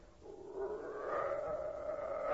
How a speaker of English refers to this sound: What's that? Sound like a wolf. Only there ain't no wolves out here.